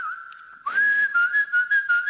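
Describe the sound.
A woman whistles a clear, bird-like tune, holding a steady pitch before rising into a brighter warbling phrase with fluttering, rhythmic pulses, fairly loud, with no talking.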